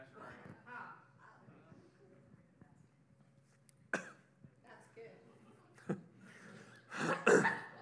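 coughing and throat clearing

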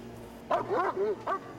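police dog barking

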